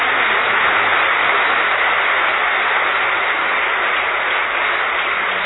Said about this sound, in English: Yes, give me a clap. Huh? Yes, yes, clap for yourself.